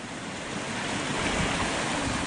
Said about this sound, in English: And the creek is just roaring. And as you can see, it's white water coming down there and a lot of ice.